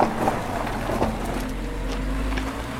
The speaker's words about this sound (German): Eine Sekunde, wir lassen erstmal das Auto vorbei.